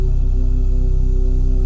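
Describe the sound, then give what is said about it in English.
Two steady electronic tones an octave apart, the frequencies of the first and second chakras, drone together, one low and one higher, blending into a continuous, unchanging hum that stays loud and even for the whole moment with no voices. “Both chakras at the same time humming.”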